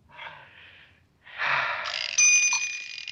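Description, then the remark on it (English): A cuckoo clock striking eleven, with a soft breathy whir, then a louder mechanical rush and a bright, sustained bell-like ring, with no one talking. “A cuckoo clock strikes 11.”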